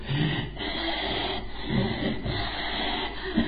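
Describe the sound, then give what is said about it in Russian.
A voice imitates a raspy, wheezing breath, a continuous rough hissing drawn out over several seconds with a few pulsing surges, fairly loud. “Поэтому, заметьте, есть люди, которые так дышат с хрипом.”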